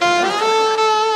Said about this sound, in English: Again, hang on. There we go. That's your basic saxophone right there.